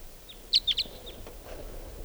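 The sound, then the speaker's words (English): A wild bird perched on top of a tall larch tree calls with three quick, high-pitched chirps in a row, loud and clear, followed by a few fainter sliding notes over a quiet background. “Here it is. Here's the wild bird.”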